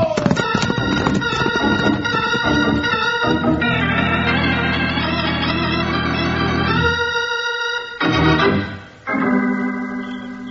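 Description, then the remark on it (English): Rapid, rhythmic hoofbeats of horses galloping hard back to town toward Angel's Fork, drumming steadily beneath loud, sustained music that swells and then breaks off near the end; no one speaks. “Back to town by the shortest route we can find, and we've got to ride hard to beat those jaspers back to Angel's Fork.”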